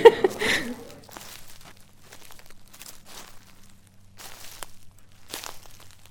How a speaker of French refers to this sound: Tu crois que je pourrais enregistrer tes bruits de pas ?